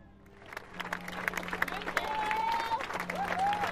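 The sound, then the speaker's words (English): Applause from a crowd at an outdoor vigil, for the police, fire crews and people whose fast action saved lives: many scattered hand claps build into a steady, moderately loud patter, with a few voices and faint rising tones mixed in. “The applause was for the police, the fire crews, the people whose fast action had saved lives.”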